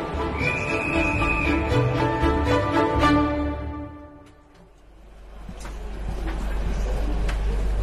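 Steady low rumble inside a moving passenger train, layered with humming tones and a brief high whine early on; the noise dips for a moment midway, then swells back up.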